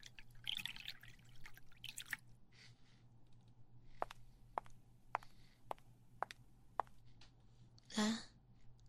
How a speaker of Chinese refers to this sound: 对了，我给你倒杯水吧，刚刚看你的嘴唇好干哦。没事的，嫂子帮你倒水，有什么好客气的？